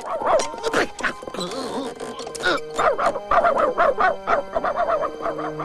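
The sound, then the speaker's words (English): Several dogs gathered in a barn in Nome bark and yip in quick, overlapping bursts, mixed with high whimpers and whines, fairly loud and reverberant. “From the Nome Telegraph office, the telegrapher's dog, Morris, spreads the news to the other dogs gathered in a barn.”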